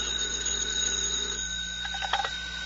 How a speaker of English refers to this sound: Tonight's FBI file continues at headquarters, where Special Agent in Charge Woods receives a phone call.